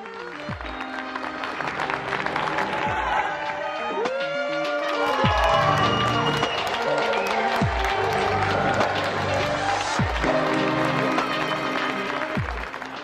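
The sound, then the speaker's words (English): A crowd claps and cheers continuously for over ten seconds in the weekly Thursday applause for NHS health workers during the COVID pandemic, a dense, lively wall of applause with whistles and tonal noisemakers sounding through it and occasional low booming thuds. “As we continue to show our support every Thursday, now we hear from another one of those we applaud.”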